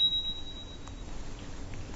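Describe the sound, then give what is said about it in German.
A small north German (Swedish) bell, one that can also open a beer bottle, gives a single thin, high ring that hangs for about a second and fades, heard faintly over a low background rumble, with no talking. “Das ist eine norddeutsche Glocke. Eine schwedische.”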